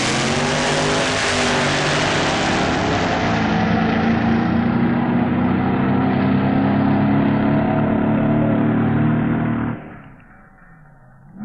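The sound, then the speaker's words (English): In a Pro Comp drag racing semi-final in the UK, Graham Hawes' alcohol-burning Monza funny car and Jim Reed's alcohol-burning Donovan rail roar at full throttle, a loud sustained engine blare with harmonic whine that fades sharply after about ten seconds as the cars pass. “The first semi-final between an Alky Burning funny car and an Alky Burning rail.”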